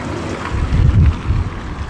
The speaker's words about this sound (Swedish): Nåja, som ni hör så är det blåsigt här vid Västvallen i Ekenäs.